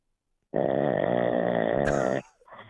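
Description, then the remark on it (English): A man snores loudly in one long, rattling, throaty breath lasting well over a second, harsh with a buzzing texture, then it breaks off into a brief softer tail. “How great is this guy snore?”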